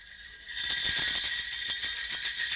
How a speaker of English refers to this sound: And yes, she's got sleigh bells in this.